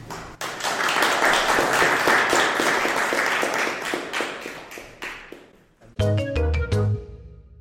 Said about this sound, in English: Please applaud our speakers.